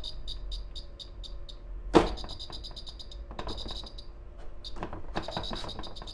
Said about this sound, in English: I thought there was a bird in the flat. There's something about this heater that's on the floor that squeaks like a bird does when you scare it and it flies away.